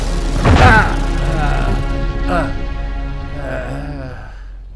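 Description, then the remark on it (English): A loud, booming energy blast from Scott's visor, opened to full power, hits with a sharp burst and a heavy low rumble, striking Blob in the back of the head. A voice lets out strained grunts and groans as he is knocked down and out. “The blast nails Blob in the back of the head and knocks him down, and finally, out.”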